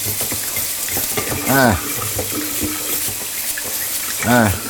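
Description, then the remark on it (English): Steady running water from a sink tap fills the background while a drawer is scrubbed underneath it, with two brief squeaky rubbing sounds standing out above the flow. “First, I'm scrubbing the pots. I mean, the drawer.”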